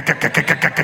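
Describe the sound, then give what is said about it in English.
A pickup truck engine revs with a loud exhaust, pulsing in six quick, even bursts over just under a second. The sound is fairly loud, with no talking. “I need a giant pickup truck. I need a manly truck. I need to get some pipes on the back.”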